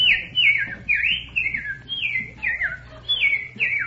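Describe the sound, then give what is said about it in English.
A whistled imitation of a bird call: a quick series of about eight bright, descending whistled notes in a steady, chirpy rhythm, clear over a faint low hum, with no talking. “Then there's what are some other bird calls?”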